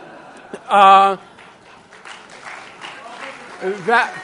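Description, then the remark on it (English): An audience applauds in a steady wash of clapping, mixed with murmuring voices and a short, loud tonal cry or cheer near the start. “Those applause I accept, especially for Paul Robeson.”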